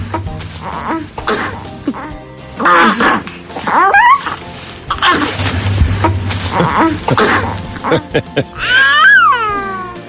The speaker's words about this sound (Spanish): Te voy a poner el ejemplo de dos bebés gemelos, tienen 4 meses, su madre les ha grabado en plena conversación. Escucha.